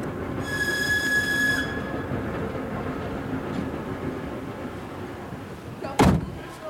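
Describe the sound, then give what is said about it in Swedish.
A train with a courier car, travelling directly to Moscow from Helsinki in 1922, rumbles steadily along the rails, a shrill wheel squeal rising briefly near the start and a sharp metallic clank near the end. “Alice ordnar med visum och resa i kurirvagn per tåg direkt till Moskva.”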